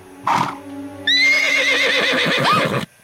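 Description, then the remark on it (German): A captured stallion, held on a rope by two cowboys, gives one loud whinny lasting nearly two seconds, its wavering high pitch trailing off, just after a short breathy snort. No one speaks. “Plötzlich entdeckt Lucky die beiden Cowboys mit dem Hengst, den sie gefangen haben.”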